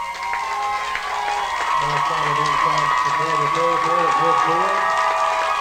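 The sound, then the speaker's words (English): A large stadium crowd at an American football game roars steadily throughout, a dense wash of cheering voices at a constant loud level, with talking woven into the noise. “Listen to that crowd”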